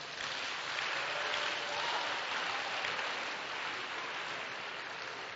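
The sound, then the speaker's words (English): An audience at a church service claps for themselves, steady, dense, continuous applause for several seconds, a broad hiss-like wash of many hands with no voices standing out. “Clap for yourselves.”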